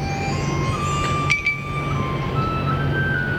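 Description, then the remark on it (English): Wind chimes ring out in bright, overlapping sustained tones that shimmer over a steady low rumble, with a quick cluster of metallic clinks about halfway through. “Appropriate use of wind chimes.”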